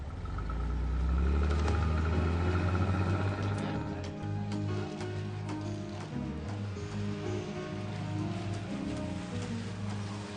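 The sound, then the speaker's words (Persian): A car engine rumbles, its pitch climbing as the vehicle is moved away from blocking an intersection, then settling into a steady low drone with scattered clicks and patter in the background. “رئیس چنین قصدی نداشتم، جلوی تقاطع رو بستی، ماشین رو جا به جا کن.”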